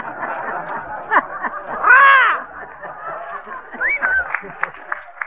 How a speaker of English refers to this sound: See, this is a funny-looking box. Now, that's a trombone, sis. What's a trombone? A trombone? Well, a trombone is a musical instrument that was invented so the fella could sit in an orchestra and keep his eye on his derby at the same time.